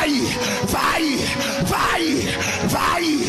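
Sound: audience shouting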